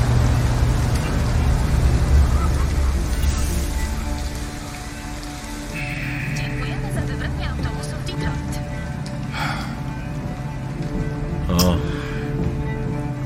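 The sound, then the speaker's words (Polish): A steady, loud low engine rumble with a constant droning hum, like riding inside a moving bus, with a hiss like rain on the windows and faint voices now and then. “Bo tak, bo myśmy tam autobusem uciekli, nie?”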